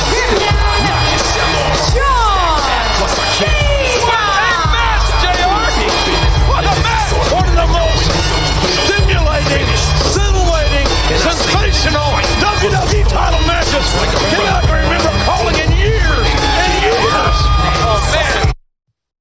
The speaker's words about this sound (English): Say what you will. The crowd's all on their feet cheering.